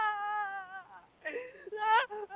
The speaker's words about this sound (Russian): Она при смерти. Говорит, звоните Константину, только он может мне помочь. И плачет.